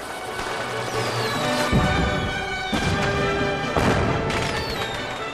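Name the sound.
fireworks exploding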